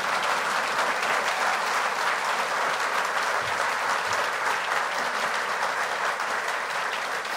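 Sustained applause from an audience at a ceremony on World Environment Day, applauding minister Sarney Filho: a dense, steady crackle of many hands clapping at an even loudness for several seconds with no voices rising above it.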